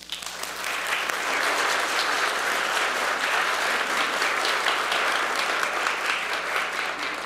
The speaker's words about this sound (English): A big, big thanks, and you can applaud after I say their name